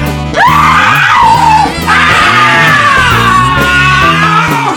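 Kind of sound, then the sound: human body sound, woman screaming in fright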